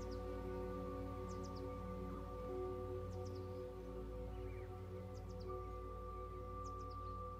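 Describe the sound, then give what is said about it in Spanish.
Small birds chirp faintly in treetops as they fly from branch to branch, short high calls recurring every second or two over a steady, loud low hum. No one speaks. “En las copas de los árboles, los pájaros vuelan de rama en rama y te regalan su canto.”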